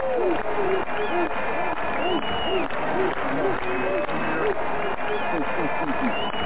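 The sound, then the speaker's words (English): A crowd cheers and applauds wildly as a comedian is welcomed: a steady, loud wash of clapping with many overlapping shouting voices that rise and fall throughout, without letting up. “You hear the crowd going wild”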